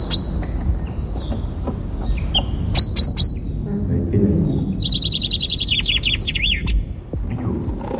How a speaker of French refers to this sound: mais d'abord on va assister à un truc très très étonnant, c'est les pinsonniers. Écoutez les petits oiseaux et ces messieurs qui jouent au pinson.